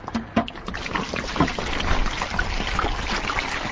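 Water pours and trickles steadily in a metal shop that doubles as the kitchen of a food stand, with a few sharp knocks and splashes near the start, then a continuous sloshing wash with no voices.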